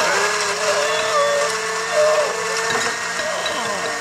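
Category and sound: household object, electric blender running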